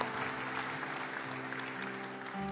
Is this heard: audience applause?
yes